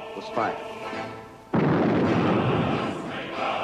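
A single loud gunshot cracks out suddenly: the last shot fired at Stalingrad, ending 126 days of battle. A long, rumbling echo fills the space for a couple of seconds, with a fainter thud just before it.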